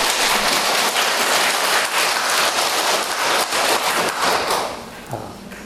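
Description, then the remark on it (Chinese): A crowd claps steadily in a dense, crackling wash of many hands, applauding to thank three patrons promoting Yin Shun's thought in Hong Kong through the Miaofa Buddhist society, holding strong for several seconds before tapering off and fading out near the end. “香港在推动印顺导师的思想啊，有个叫做妙法佛学会，就是这他三个大德三个大护法自己在推动的啊，大家要鼓掌谢谢。”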